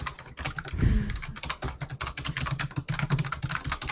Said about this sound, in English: We'll just wait until he's done typing. I'm blown away by his typing, actually. I'll just watch him type all this whole time. I'll still be here at 11 o'clock. I'll be like, wow, he types so fast.